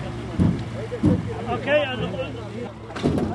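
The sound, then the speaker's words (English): A boat motor drones steadily as the boat crosses the River Tigris to the town of Dhulu'ir in Iraq, about 60 miles north of Baghdad, a low constant hum running beneath someone talking, with some wind buffeting the microphone. “The only way for civilians to get to the town of Dhulu'ir is by boat across the River Tigris, since ISIS blew up the main bridge here.”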